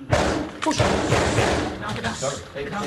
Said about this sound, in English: Then suddenly a new round of gunfire.